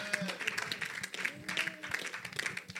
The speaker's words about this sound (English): Clap for the Lord Jesus.